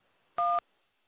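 A single loud phone keypad tone for the number one, pressed on a call to lower a raised hand, a short steady dual-pitched beep lasting about a fifth of a second, standing alone against faint background hiss.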